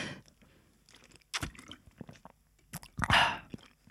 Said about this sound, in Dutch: Ik drink gewoon water, niet zo bijzonder. Wacht, ik ga nog even een slok nemen. Hij is al bijna op, nu al.